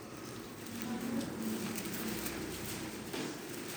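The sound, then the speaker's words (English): Leaves rustle softly and continuously, a dry crackling patter with scattered brief ticks, over a faint low hum. No one speaks. “I'm going to wait till I hear the leaves stop rustling.”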